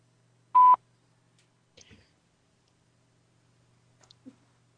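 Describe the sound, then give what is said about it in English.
A single loud, short electronic beep, like an answering machine's tone, followed by a few faint clicks and light rustling in otherwise near silence. “It beeped.”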